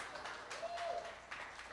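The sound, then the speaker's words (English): A crowd claps steadily, a continuous wash of applause, fairly soft and even throughout, with no voices over it. “You guys can keep clapping.”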